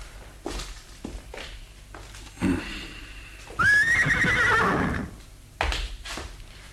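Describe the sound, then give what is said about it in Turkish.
A horse lets out a loud, drawn-out whinny near the middle, framed by scattered hoof clops on hard ground, with no one speaking. “Atlar hazır baba.”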